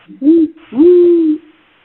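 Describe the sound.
Someone mimics an owl with two loud hoots: a short one followed by a longer, drawn-out call, with nothing else audible around them.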